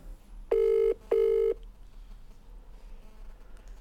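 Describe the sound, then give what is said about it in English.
A telephone call to Rosie Jackson being placed for 102.5 FM Sound Art Radio's The Word Cafe: two steady, mid-pitched electronic tones, each under half a second, sound one after the other with a short gap, followed by quiet line hiss and no voices. “We'll call Rosie Jackson. Let's get her on the phone.”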